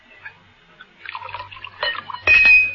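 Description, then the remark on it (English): Brandy is poured into a glass in a few short, gurgling splashes, building to a brighter, louder pour with a faint glassy ring at the end, over a low steady hum. “Just I thought I'd drop by and maybe sample another glass of that excellent brandy.”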